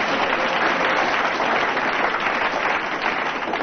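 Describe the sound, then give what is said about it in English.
Studio audience applause, a dense, steady wash of many hands clapping that stays loud and even for several seconds, with no voices standing out. “I thought you'd have got more applause from the audience, but...”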